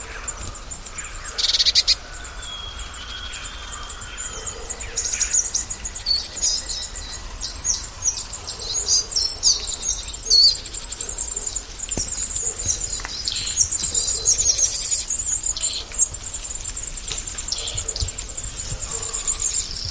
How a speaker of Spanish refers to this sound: Vamos a escuchar la nieve cayendo y también muchas aves, porque de fondo podrá escuchar el oyente cornejas, petirrojo, cuervo, choba pitirroja, carbonero común, estornino negro, bando de mitos y un carbonero garrapino.